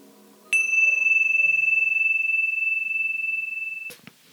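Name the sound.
meditation bell ringing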